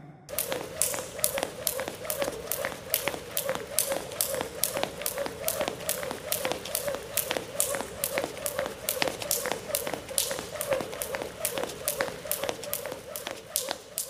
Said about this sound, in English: That's trickier. Well, let's see what I can rule out. It's not an old-fashioned adding machine. Nor is it a banana peel being sat on by an elephant. That must mean it's a jump rope. I got it.